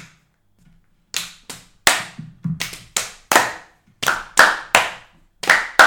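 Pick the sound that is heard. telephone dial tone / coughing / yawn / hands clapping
hands clapping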